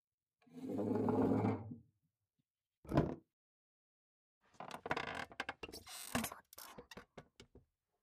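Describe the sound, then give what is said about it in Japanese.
A wooden chair gives a long, drawn-out groan, then a single sharp knock, followed by a cluster of quick creaks and clicks as someone climbs and stands on it, fairly quiet. “これで、ちょうどいいな。椅子の上だから、少しバランスが悪いが。”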